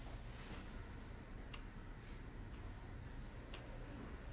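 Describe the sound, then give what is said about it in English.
Faint, steady clock ticking: soft, evenly spaced clicks barely rising above a constant hiss of background noise, with no voices present. “That's the clock.”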